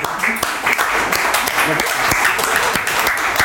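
A steady wash of audience applause fills the whole stretch, dense overlapping claps with sharper individual hand claps popping out, fairly loud and sustained without pause.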